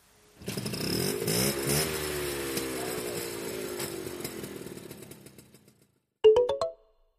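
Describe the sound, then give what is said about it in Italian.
A red Vespa scooter engine revs up loudly, its buzzing pitch slowly winding down over several seconds, then, after a brief pause, a short final rev of the throttle. “A settembre, all'inizio del secondo anno di liceo scientifico, sono andato a scuola con la mia Vespa rossa, comprata con i miei soldi.”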